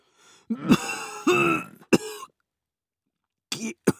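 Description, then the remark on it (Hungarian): A person coughs and sputters in several harsh bursts after choking on wine, with strained throat-clearing between fits, then a short pause before a couple more sharp coughs. “Na, megfulladsz egy kis bortól? Na, hát köhögd ki!”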